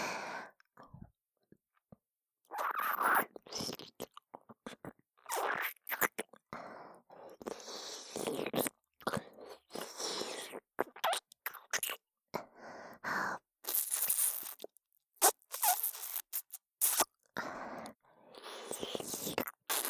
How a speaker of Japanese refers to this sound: じゃあ、次は、お耳全体を、また、ゆっくりと、ペロペロしちゃうね。